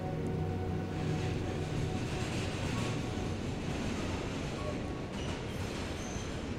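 A subway train roars steadily, a dense continuous rumble with faint metallic whines, as another train next to it rushes past in the opposite direction with a brief shift in the noise near the end.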